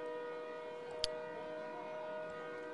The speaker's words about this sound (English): I will tell you there is a train. I can hear it.